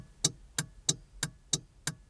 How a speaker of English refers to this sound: But what about the not obvious until you point them out sounds, like the sound of the blinker?